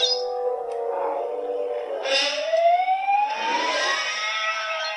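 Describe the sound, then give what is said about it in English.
A movie creature's shrill, siren-like scream from the original theatrical version wails continuously, sliding upward in pitch with harsh layered tones, loud, with no talking over it. “It's like a siren and a man screaming.”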